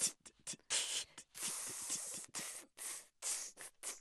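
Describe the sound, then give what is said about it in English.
A voice beatboxes an open hi-hat with breathy, inhaled hisses, a quick string of short bursts followed by longer sustained sizzles in an uneven rhythm, fairly loud with no talking. “So you can use an open hi-hat sound, but breathe in.”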